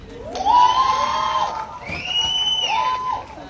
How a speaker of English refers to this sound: Her ending performance receives a standing ovation, drowning out her thank yous to the crowd.